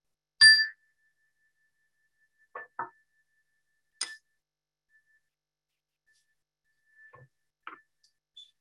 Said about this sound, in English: And as you listen to the sound of the chime, bring your focus back into the room.